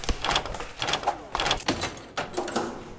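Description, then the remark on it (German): A video game door, the next door the player goes through, slides open with a rattling, mechanical clatter, a series of moderately loud scraping bursts over a few seconds with no one speaking. “jetzt gehen wir hier in die nächste, durch die nächste Tür.”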